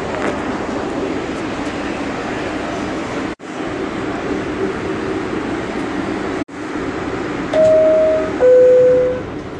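A subway train, the sixth train, fills the scene with a steady, broad roar and rumble, broken by two brief cuts, then a two-note descending door chime rings out clearly near the end.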